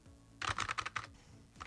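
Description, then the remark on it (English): A quick burst of about six sharp computer keyboard key taps while playing a video game, fairly loud, followed by a pause and one more faint tap at the end. “I'm walking at the keyboard.”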